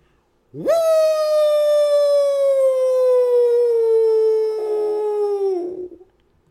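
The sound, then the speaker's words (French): A person imitates a wolf howl: one long, loud cry that swoops upward, holds for several seconds while slowly sinking in pitch, then trails off abruptly. “Avec un petit cheminot dans les mains, laisse-moi hurler au loup à mon tour.”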